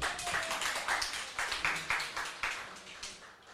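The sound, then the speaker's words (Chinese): A small group claps steadily, many quick overlapping hand claps forming a brief round of applause for an audience volunteer coming out to help with a magic trick, at moderate loudness, slowly thinning out toward the end. “嗯哼，有是但出嚟啦，你过嚟啦，你出嚟吓，俾啲掌声佢啦，俾掌声佢。”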